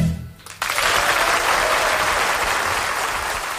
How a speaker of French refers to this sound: Oui, il les mérite, ces applaudissements